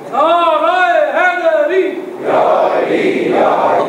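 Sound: crowd chanting a slogan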